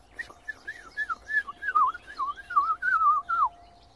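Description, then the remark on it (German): A blackcap sings a bright, clear fluting phrase: a run of rising and falling whistled notes lasting a few seconds, fairly loud, with no talking. “Dieses helle, klare Flöten, das schafft nur die Mönchsgrasmücke.”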